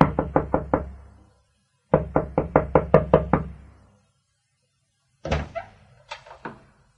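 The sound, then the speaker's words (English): Rapid, insistent knocking on a wooden door in the morning, in two loud bursts of quick raps, followed by a heavier thud and a few scattered knocks, with no voices. “But the following morning, there was an urgent knock on my door.”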